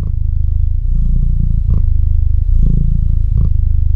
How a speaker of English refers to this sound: Now that is a purring sound you can meditate to. Check out photos of Bilbo the Cat on our Instagram.